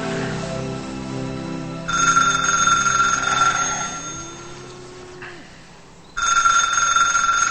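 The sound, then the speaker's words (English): A telephone rings in two long electronic bursts separated by a short pause, fairly loud, over a low steady background hum with no one speaking. “Rebecca answers the phone.”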